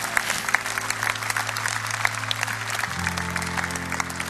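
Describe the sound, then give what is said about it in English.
A large audience at Rhema Bible Church claps steadily for first-time guests for several seconds, a dense, even wash of applause, with a low sustained tone droning underneath that shifts pitch near the end. “Let's give these folks a big hand clap tonight.”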